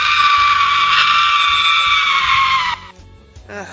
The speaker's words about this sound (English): Well, that's the boy screaming, so... That was? Yes, I've had that one for years now.